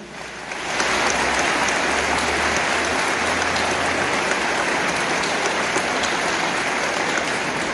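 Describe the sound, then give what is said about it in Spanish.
A crowd bursts into sustained applause for more than 260 people who excelled in sports, after a brief quiet start, steady dense clapping at an even, loud level until the end. “Pido para ellos un fuerte aplauso.”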